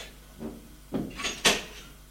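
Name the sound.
knocking on a door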